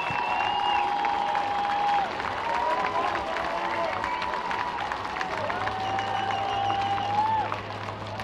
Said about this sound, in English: He put together a heck of a debut, and he'll hear it from this hometown crowd.